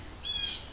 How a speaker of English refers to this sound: We got two owls, and now all the little birds are chasing the owls because they don't like the owls.